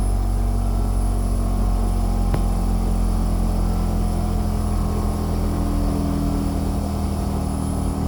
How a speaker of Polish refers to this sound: No i teraz będzie słychać, jak urządzenie zewnętrzne działa tylko przy uruchomionej klimatyzacji w sypialni.